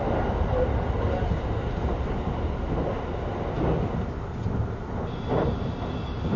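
A steady, low rumble of a moving train heard from inside, a train stopping at Takaoka, Kanazawa, Kyoto and Shin-Osaka, dense and constant across the whole stretch, with faint rhythmic clatter and a few soft muffled bumps rising and falling in the noise.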